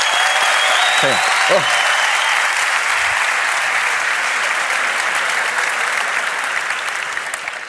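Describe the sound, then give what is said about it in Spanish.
Loud, sustained audience applause for the sign language interpreters fills the whole stretch as a dense wash of clapping, with a few brief vocal whoops near the start, tapering slightly at the very end. “En cualquier caso, un aplauso fuerte para los intérpretes de la lengua de signos, por favor, eso sí, ¿no?”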